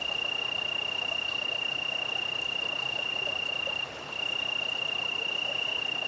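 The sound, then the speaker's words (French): Italian tree crickets trill steadily about 50 cm to 1 metre away, a continuous high insect drone, over a broad wash of the Drôme river flowing about twenty metres below, at about 15 degrees. No voices. “Donc là, toute la subtilité de cette prise de son est d'avoir en premier plan les grillons italiens, les grillons d'Italie, Campus Pelusens, et d'avoir aussi la largeur et l'espace de la Drôme qui s'écoule en contrebas.”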